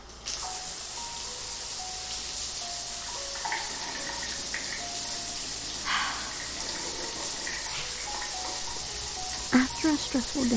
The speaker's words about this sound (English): Taking an extra long shower.